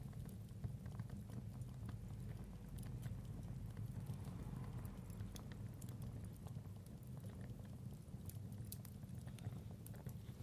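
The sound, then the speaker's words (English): An open wood fire's flames flutter softly in a steady, low, rumbling whoosh, with faint scattered crackles and pops throughout and no one speaking. “Do like the quiet flutter of the flames, really nice.”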